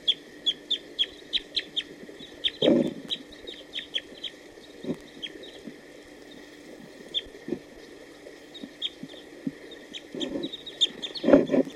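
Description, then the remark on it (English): A wild male bird gives song phrases: a steady series of short, high chirps repeats throughout, broken by a few louder, lower, harsh clucking bursts. No one speaks. “that escaped our attention until now, although there were some song phrases given by a wild bird just a few minutes ago.”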